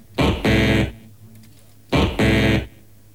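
Two loud wrong-answer buzzer sounds, played for a wrong football score prediction, each a harsh, rasping double buzz, separated by a brief pause with no talking.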